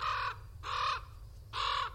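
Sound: american crows cawing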